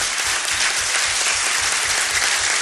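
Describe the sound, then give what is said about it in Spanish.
Sustained audience applause for Argentina's Minister of Public Works, a dense, steady wash of many hands clapping at constant loudness throughout, with no voices over it. “Cuando llegó Gabriel al Ministerio de Obra Pública, me acompaña desde el primer día, este extraordinario ministro que fue el único que no habló, pero que les pido un aplauso.”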